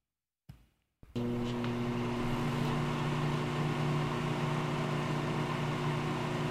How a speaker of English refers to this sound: Microwave. That's absolutely correct.